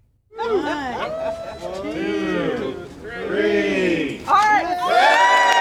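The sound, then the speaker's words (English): An invited crowd of supporters cheers and whoops loudly and continuously as a ceremonial red ribbon is cut at the reopening of the Sheldon Concert Hall in St. Louis's Grand Center, many overlapping voices rising in excited shouts that swell near the end. “cut a ceremonial red ribbon, and an invited crowd of supporters got their first look at updates to the building.”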